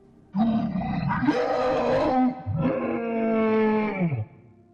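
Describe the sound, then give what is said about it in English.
A creature lets out two long, loud howls back to back as it drops a fallen cop's limp body to the ground, rough and roaring with a strong tonal core, the second one sagging lower in pitch before it cuts off. “The creature let out another awful howl as it dropped the limp body of the fallen cop to the ground.”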